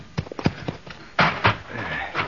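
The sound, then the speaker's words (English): Horse hooves clip-clop in a quick, uneven run of sharp knocks, followed by a couple of heavier, louder thuds as a cowboy's horse moves. “You catch his horse, Little Beaver.”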